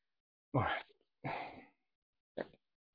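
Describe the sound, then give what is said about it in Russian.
A man sneezes abruptly, followed by a noisy breathy exhale and a short sniff-like sound a moment later, with quiet pauses between. “Чуть не чихнул, ладно. Точно, я чихнул, виртуально чихнул.”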